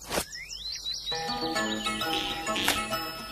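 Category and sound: bird, parrot calling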